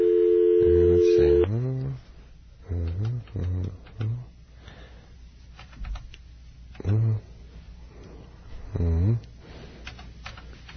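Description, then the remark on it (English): A phone line's steady electronic tone gives way to a series of short, clipped beeps in uneven bursts, like a number being punched in on a touch-tone keypad, clear. “I will oftentimes dial phone numbers in a way that doesn't reflect the way they were written down just because they're rhythmically better.”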